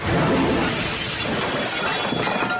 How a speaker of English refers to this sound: Everybody dropping their plates and forks.